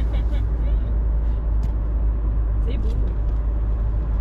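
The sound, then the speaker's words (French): Steady, heavy low rumble of road and engine noise from inside a moving car, constant throughout, with faint voices and small clicks under the drone. “Nous, on est bon public dans notre voiture, vous inquiétez pas.”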